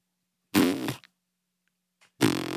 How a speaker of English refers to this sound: Are you farting? Come on.